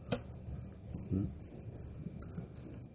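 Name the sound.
cricket chirping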